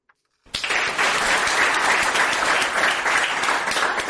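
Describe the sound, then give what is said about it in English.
A hearty round of applause starts abruptly after a brief silence, dense, steady clapping from a crowd that stays loud and sustained to the end, as military doctors in Wow, South Sudan, receive certificates at the end of a three-day training session. “A round of hearty applause is heard after military doctors in WOW receive certificate at the end of a three-day training session.”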